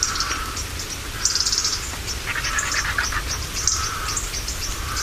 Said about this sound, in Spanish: Llueve en otoño en la portilla del Tietar y los buitres siguen cacareando.